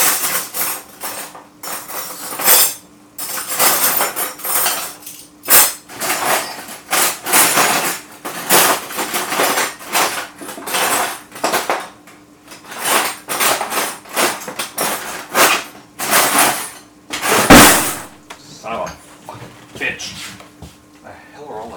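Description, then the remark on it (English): Metal cutlery clatters and jangles in dense, irregular bursts for over twenty seconds as someone rummages through a kitchen drawer looking for teaspoons, with a louder crash near the end and a voice muttering at times. “Teaspoon in this fucking kitchen. Son of a bitch, where the hell do they all go?”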